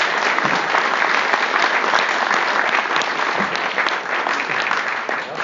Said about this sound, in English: Please, round of applause for you, please.